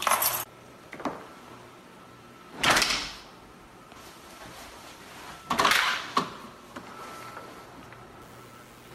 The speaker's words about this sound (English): Okay, you can't hear it at the beginning, but you can hear it with the shutting that that's one of those heavy metal doors.